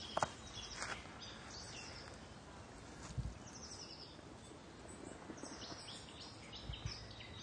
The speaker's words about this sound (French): Mésange. La mésange. Charbonnière. Toujours.